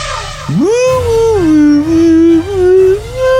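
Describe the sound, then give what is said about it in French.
A dog howls in a long, wavering tone that rises sharply, dips and swells again like an off-key singer, holding loud sustained notes for about three seconds with no talking. “Qu'est-ce que c'est que ce chanteur qui chante comme une casserole ? Hé ! Je chante pas comme une casserole !”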